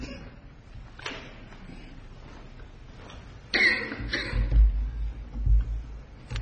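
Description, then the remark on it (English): Two or three harsh coughs burst out, followed by low thumps and shuffling handling noise. “I have a cough, too.”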